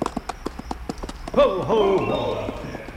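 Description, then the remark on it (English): Steady, fairly quick clip-clop of horse hooves, then a louder wavering tonal call rises over the continuing hoofbeats through the second half. “Then just hang there and have the horse go out from under you.”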